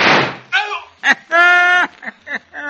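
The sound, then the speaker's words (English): A single loud gunshot, fired at a man creeping closer and wounding him, bursts out at the start, and its harsh noise fades quickly into a string of short, high-pitched voiced cries and exclamations. “Oh! I winged him all right. Yes, sir, I winged him good and proper.”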